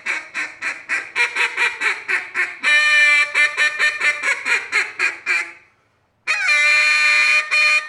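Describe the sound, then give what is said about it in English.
A duck call blown at a state duck-calling competition in a rapid run of loud, nasal quacks, followed by a brief silence and then a sharp, high squeaky missed note that breaks the pattern, all clear with no talking. “Here's the missed note.”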